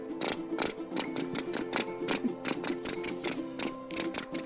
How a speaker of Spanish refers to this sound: Y los grillos comenzaban a cantar.